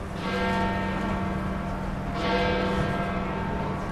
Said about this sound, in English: The bells of St. Peter's chime out 10 o'clock on a crisp, sunny morning. I'm making my way around the massive basilica walls inside Vatican City.